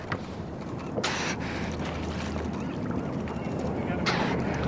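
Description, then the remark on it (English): Two short, sharp breathy puffs of a harbor porpoise from a cow-calf pair exhaling at the surface in a bay, a few seconds apart and 5 or 6 feet from the boat, over a steady low rumble of boat and water. “The old-time sailors used to call them puffing pigs. That's the exhalation.”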